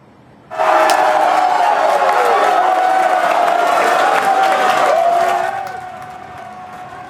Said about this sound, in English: You can just hear that excitement as fans gathered yesterday at Players Retreat to watch the game. This is the Wolfpack's first March Madness win in 9 years.